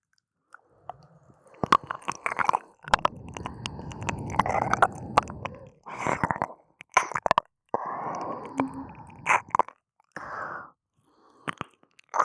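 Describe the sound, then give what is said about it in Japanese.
Wet, sticky mouth sounds of a left ear being licked: smacking clicks and slurps alternate with longer soft squelching stretches, fairly quiet, with brief pauses between bursts and no talking. “だってまだ左耳を舐めてる途中だもんね。”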